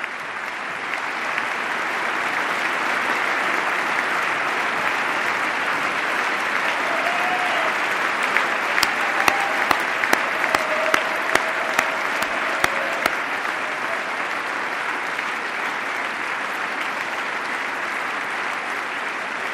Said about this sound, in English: By far the most prolonged applause of this State of the Union address.